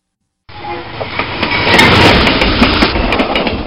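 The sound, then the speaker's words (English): A slower train bound for Vienna, not the RJ306, rolls steadily along the rails, a loud continuous rumble with faint rhythmic clacks and rattles rising in after a brief silence at the start. No one speaks. “Oh, sir, I'm afraid you took the wrong train.”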